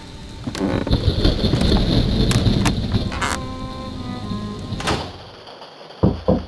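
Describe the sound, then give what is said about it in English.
A horse-drawn carriage in Barovia: a heavy wooden door creaks and thuds shut over a steady wash of rain, followed by a few sharp, clopping hoofbeats as the carriage starts off. No voices. “So please, join me in my carriage and get out of the rain.”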